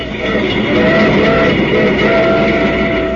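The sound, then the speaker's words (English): A steady, loud rumble of a train rolling along the tracks on the way back to New York, with a constant mechanical drone and faint tonal hum running underneath, no voices. “After a series in Cleveland where Dutch horse-collared the Babe in two games, I collared the big fella on the train back to New York.”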